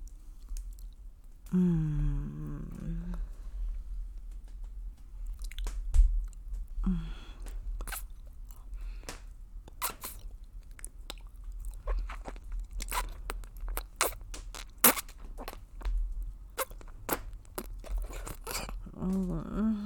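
Steady, irregular chewing and biting with crisp crunches and wet mouth clicks for about twenty seconds, joined briefly near the start by a low hummed vocal sound.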